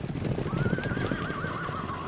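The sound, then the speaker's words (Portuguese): Horses gallop somewhere in the distance, a dense, muffled rumble of hoofbeats with a thin, wavering whinny rising above it midway. No one speaks. “Não está ouvindo ao longe um galope de cavalos?”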